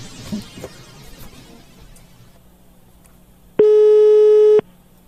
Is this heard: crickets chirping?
no